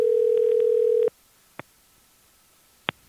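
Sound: telephone dial tone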